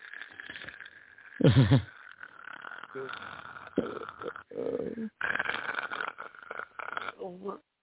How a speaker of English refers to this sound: Are you fucking snoring on air?